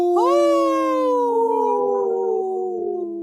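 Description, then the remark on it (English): Three human voices howl together in imitation of wolves on a radio show, holding long, loud, overlapping tones that glide slowly downward in pitch and fade out together at the end. “Wow, us three haven't howled in, together like that in a long time,”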